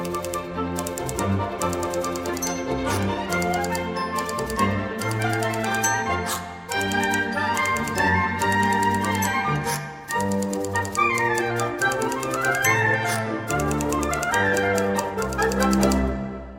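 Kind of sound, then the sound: household object, typewriter typing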